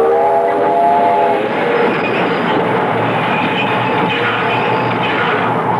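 A train roars past at close range, a loud horn blaring steadily for the first second and a half before fading into the rumble and rhythmic clatter of wheels on rails.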